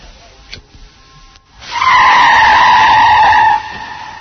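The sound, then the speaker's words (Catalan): A car's tires skid under hard braking in a loud, sustained screech of about two seconds after a quiet start with a faint click, then the squeal cuts off abruptly. No one speaks. “Si respectes les distàncies i condueixes tranquil, mai hauràs d'esbrinar el que passa després d'una frenada així.”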